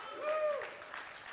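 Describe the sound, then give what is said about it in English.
An audience claps in a steady, dense wash of applause, with a brief high whistle or whoop rising over it early on before the clapping carries on evenly. “Now that you're clapping, let me make you mad.”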